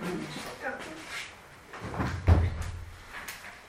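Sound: door being closed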